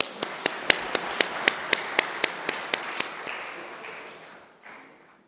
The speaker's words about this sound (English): Once again, give you guys a big hand.